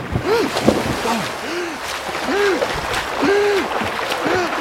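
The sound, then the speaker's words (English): Water sloshes and splashes continuously as people jump into a river and thrash through it, with short bursts of spray and repeated strained vocal cries over the churning water. “Jump into the river! Tigers can't swim!”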